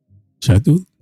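A short vocal utterance run through an echo effect, the sound repeating once right after itself. Fairly loud, about a second long, with a faint low murmur before it.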